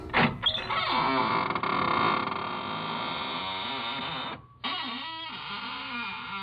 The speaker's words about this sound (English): This is Raymond, your host at the squeaking door.